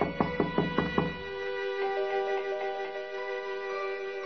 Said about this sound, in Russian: Вошел и постучал в парадное.